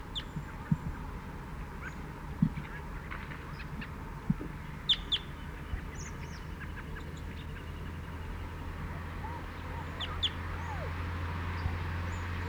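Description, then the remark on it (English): Faint, high-pitched chittering of a bird on its way in, perching in the pine immediately behind the net: short scattered chirps and a few quick clusters of sharp notes, set over a steady low hum and soft background noise. “Chittering on the way in. Perched in the pine immediately behind the net. Chitter.”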